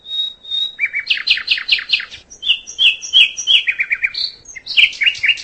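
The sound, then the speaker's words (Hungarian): A male common nightingale sings loudly as evening approaches, pouring out varied phrases of whistles, rapid trills and repeated chirping notes in quick succession, with no voices present. “Közeleg az este, a hím fülemüle szervezete tel is telett tesztoszteronnal tojó társaságra vágyik, és ennek bizony hangot is ad.”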